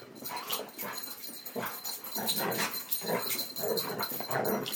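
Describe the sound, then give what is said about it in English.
Flapping, rattling bursts of two dogs, Elkie and then Emily, shaking themselves off one after another, Elkie freshly groomed, with bright jingling like collar tags and some panting, with no talking. “That was Elkie shaking and then Emily shaking.”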